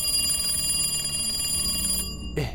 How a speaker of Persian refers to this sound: که یهو تلفن زنگ خورد.